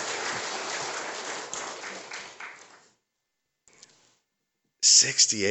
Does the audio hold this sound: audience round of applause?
yes